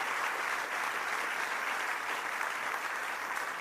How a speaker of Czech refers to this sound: Martine, přivítal tě potlesk.